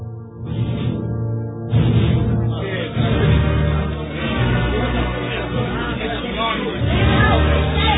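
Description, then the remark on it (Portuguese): A frenzied crowd in a square clamors densely and continuously, many overlapping voices shouting and murmuring together at a steady loud level throughout, with no single speaker standing out. “Pilatos caminha receoso até uma das amplas janelas do edifício e encara a multidão ensandecida na praça.”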